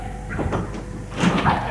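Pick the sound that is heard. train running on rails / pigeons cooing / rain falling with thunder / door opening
door opening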